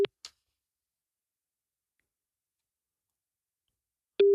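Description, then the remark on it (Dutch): A steady low ringback tone sounds during an outgoing phone call to Alfred Schreuder: a brief tail of tone at the start, a soft click, about four seconds of silence, then the tone returning with a sharp onset. “Hij gaat over.”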